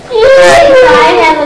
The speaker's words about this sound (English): Yeah, you're whining.